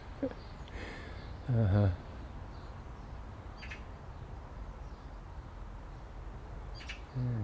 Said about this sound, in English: It's a young robin. No red breast for young robins.